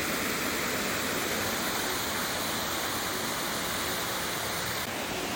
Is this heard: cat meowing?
no